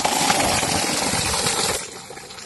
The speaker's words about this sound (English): Motor chala de do mein. And you can see the borewell that we have put here, and it's giving water for the people.